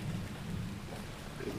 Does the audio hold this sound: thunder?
yes